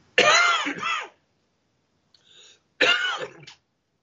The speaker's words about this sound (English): Had a little bit of a cough there.